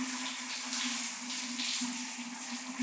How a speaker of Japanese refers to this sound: おお、すごい。シャワーをかけたらさらにパチパチしてますね。なんか、シュワシュワパチパチとしたものってワクワクしてきませんか。